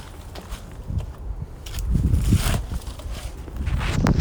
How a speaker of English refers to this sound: I can hear my shoes crunching against the leaves on the ground. I can hear my feet dragging against the pavement. I can hear my feet crunching the ground once again.